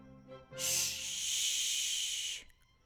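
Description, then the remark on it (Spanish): A single steady "shhh" shushing hiss from a person's voice, used to represent a musical rest in a rhythm exercise, bright and airy, holding evenly for about two seconds before cutting off, with nothing else around it. “Y para interpretar el silencio, podemos hacer así.”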